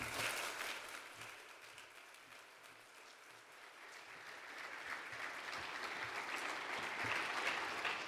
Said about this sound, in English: So before she brings to us a gospel message this day, could we please welcome her with a warm round of applause?